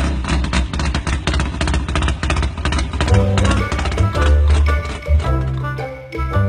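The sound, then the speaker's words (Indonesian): A fisherman boards his boat at sea and starts the fishing boat engine, which runs loudly with a dense rhythmic chugging and a deep low rumble that continues steadily throughout, with no voices. “Nelayan menaiki perahu dan menyalakan mesin.”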